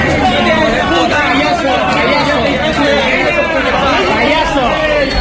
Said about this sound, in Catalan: Paral·lelament, centenars de persones s'han concentrat al centre de la població en una mobilització de rebuig i, de fet, han boicotejat l'acte amb crits, xiulets, sirenes i, de tant en tant, també algun petard.